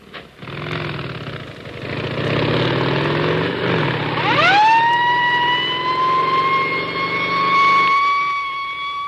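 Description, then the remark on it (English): Sirens of a motorcycle escort carrying cholera vaccine to LaGuardia Airport, New York, in October 1947 rise over a rumbling engine, one winding sharply upward into a long, steady wail with strong harmonics, loud amid a broad motor roar. “Motorcycle escorts to LaGuardia Airport, New York.”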